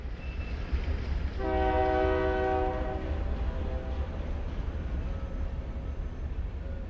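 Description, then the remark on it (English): A train winding around Cristo Rey in Sunland Park, New Mexico, rumbles past with a steady low roar, and a loud multi-tone horn blares for about two seconds before the rolling noise continues alone. “Winding around Cristo Rey, trains are part of the rhythm of daily life.”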